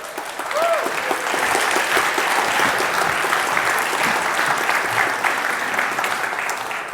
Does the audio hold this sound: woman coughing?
no